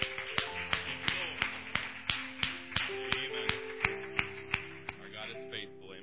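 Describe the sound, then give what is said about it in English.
A group claps in a steady, even rhythm, sharp claps roughly three per second, over sustained musical tones and faint voices, with reverberation. “Just give the Lord a round of applause for His healing touch.”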